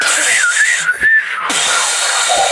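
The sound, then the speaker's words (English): Someone imitates a hot air balloon burner flame with a loud, steady, breathy hiss that lasts about two seconds, a thin whistling tone wavering through it. “This is the flame.”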